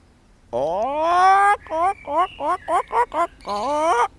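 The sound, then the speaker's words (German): A person imitates a clucking hen, loud: one drawn-out rising call, then about seven quick, choppy clucks in a row, ending on another long squawk, mimicking the hens in a henhouse. “Und dann gehe ich in den Hühnerstall und dann geht's los und sage ich.”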